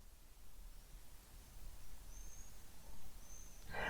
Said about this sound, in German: Ja, ich sitze hier mal wieder vor meinem wunderschönen großen Fenster. Draußen strahlt die Sonne, die Vögel zwitschern, vielleicht kannst du es hören.